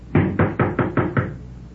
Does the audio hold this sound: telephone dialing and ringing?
no